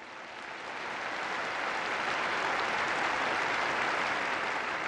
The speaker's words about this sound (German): questi fratelli e sorelle nostri dell'Estremo Oriente che domani festeggeranno il primo di anno, il primo anno lunare, salutiamo con un applauso da qui.